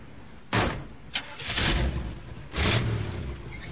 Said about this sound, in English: returns to his car and drives away.